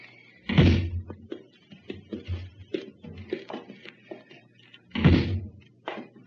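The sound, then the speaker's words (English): A wooden closet door thuds shut twice, loud, with rattling, knocking and shuffling sounds in between as it is jostled and secured with a tied-up person shut inside. “Put your nose against the bottom of the door and you'll get plenty of air.”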